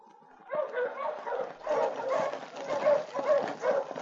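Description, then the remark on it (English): A pursuer's approaching sled dog team barks and yelps in a dense, overlapping chorus that surges in after a brief quiet moment, then keeps up a steady, excited racket. “Already, Luke could hear the approaching dog team of his pursuer.”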